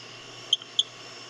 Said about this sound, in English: Now let's play Bill, let's play Rio Grande Chirping Frog. It'll be under either Rio Grande or Chirping Frog, because that one gets a lot of people at night. And here goes Bill.